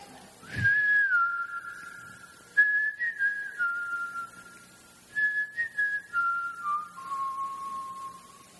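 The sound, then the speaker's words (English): Someone whistles a slow, clear melody in a few sustained phrases separated by short pauses, the pitch stepping gradually downward. No one speaks. “Maybe you can whistle for him.”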